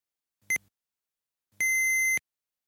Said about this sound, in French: Au troisième bip, il sera 3h15.